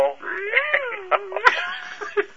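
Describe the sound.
A person does a long, wavering cat meow that rises and then slides down over about a second and a half, followed by a sharp click and quieter murmuring sounds.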